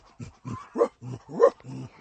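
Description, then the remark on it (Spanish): A small dog, so thirsty it can barely walk, pants heavily with its tongue hanging out, in quick rhythmic breaths about three per second, with a couple of breaths rising into soft whimpering whines. No one speaks. “Pobrecito, está jadeando mucho y su lengua le cuelga.”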